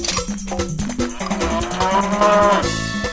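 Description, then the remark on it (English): A cow moos loudly, one long drawn-out lowing call that wavers in pitch over a busy, tonal background. No one speaks. “Now the cow disappeared, and I'm out of luck.”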